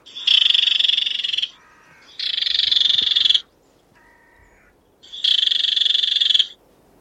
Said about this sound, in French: Et du coup, on peut tenter de mettre directement de la repasse à la fauvette épervière. Soyons honnêtes, hein, ça marche pas souvent parce que la probabilité qu'il y en ait une dans le buisson est très faible. Mais parfois ça marche.